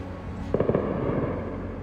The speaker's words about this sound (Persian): اما برخلاف جنگ 12 روزه که اولین حمله‌ها در تاریکی شب رخ داد، این بار حدود ساعت 9:30 صبح همه چیز تغییر کرد و صدای جنگنده‌ها و انفجارهای پیاپی در تهران شنیده شد.